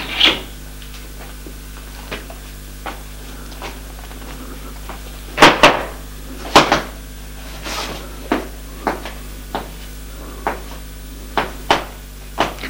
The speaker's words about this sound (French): Et ouvre la porte de la cuisine.